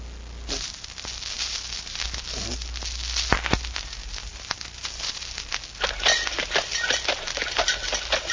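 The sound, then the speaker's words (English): Horse hooves clip-clop at an easy, uneven pace over a steady low rumble of the wheels of a horse-drawn milk wagon, with sharp knocks scattered throughout and no voices. “In the year 1896, milk was delivered in a horse-drawn milk wagon.”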